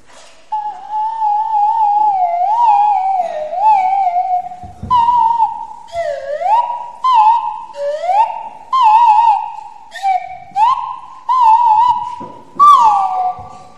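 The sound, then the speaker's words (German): A bird sings alone in the crown of a blossoming tree, in a series of clear, slurred whistled phrases, each rising or falling in pitch, repeated with short pauses in a steady, fairly loud rhythm. “In der Krone des Baumes zwitschert und summt es.”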